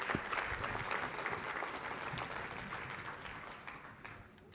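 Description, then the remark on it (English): A crowd applauds steadily for several seconds as three panelists come up for an interactive session, a dense, even patter of many hands clapping that slowly tapers off toward the end, with no voices standing out. “So a round of applause for the three panelists we have.”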